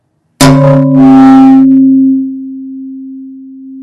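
A thin, stiff, light plastic bowl about the size of a big cantaloupe is struck with a sharp knock, then rings out with a clear, bell-like tone and several overtones that hold and slowly fade over a few seconds.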